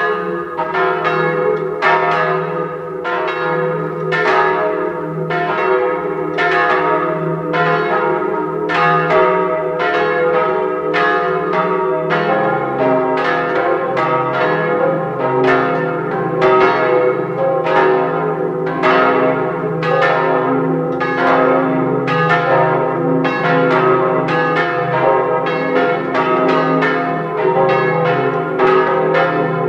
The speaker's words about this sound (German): 12 Uhr. Sie hören die Glocken der Pfarrkirche von Kuchl im Salzburger Tenningau.